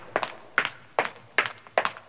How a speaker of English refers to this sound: hobbled home, breathing in time to the sounds of her footsteps on the pavement.